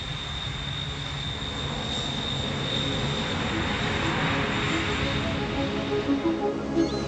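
An aeroplane engine roars steadily with a high whine on top, growing slightly louder as it builds power, like a plane speeding up on the runway for takeoff. No voices.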